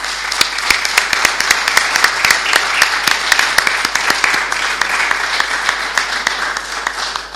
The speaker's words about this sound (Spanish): Un aplauso para él.